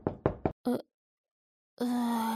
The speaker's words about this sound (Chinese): 谁在敲门啊？是爸妈回来了吗？弟弟，你等着哈，姐姐我去开门。